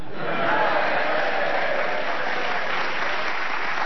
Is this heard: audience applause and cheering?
yes